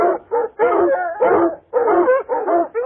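Small dogs, let off their leashes on a tiger hunt, bark and yelp in quick, excited bursts as they rush into bamboo jungle on a tiger's trail, about seven sharp, high-pitched outbursts in a few seconds, loud with only brief pauses between them.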